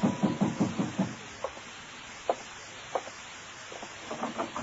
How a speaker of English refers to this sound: In my room, I was about to call Crane and ask him why when somebody began pounding on my door.